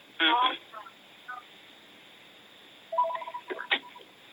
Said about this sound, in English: Oh, there's that wonderful phone again. I'm sorry, guys.